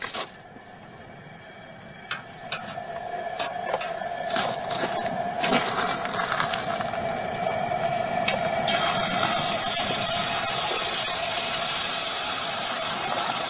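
Steady, dense sizzling and crackling as water left in a 14-pound turkey hits hot frying oil, a broad hiss with scattered sharp pops early on that builds slightly louder and holds without any talking.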